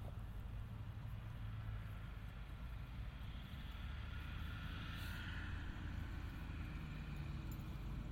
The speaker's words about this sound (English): Unmistakable sound of a Land Rover.